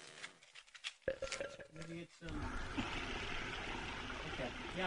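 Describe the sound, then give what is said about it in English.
A couple of ice cubes clink and rattle in a highball glass, then a steady stream of tap water pours in with a continuous rushing splash that fills the rest of the moment. “Grab a highball glass, put a couple of cubes of ice in there, and a little bit of tap water, will you?”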